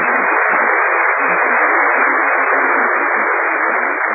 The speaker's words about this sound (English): You open the door and the neighbors applaud. It's really tough. All the houses on radio programs have built-in applause, I've noticed.